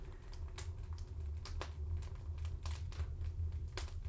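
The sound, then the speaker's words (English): A steady, low rushing roar of air being sucked up the flue of a stove, with irregular sharp crackles and pops scattered over it. No one speaks. “Like, I love the sound of the air in the background. Yeah, you yeah. can hear the... hear the flue. Right. Sucking right. air, yeah.”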